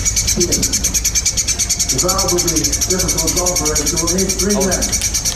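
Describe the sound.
A dense, continuous chatter of high-pitched bird chirps from birds inside a brick chimney at home pulses rapidly throughout, loud, recorded on a phone, with muffled voices and a TV murmuring underneath in the second half.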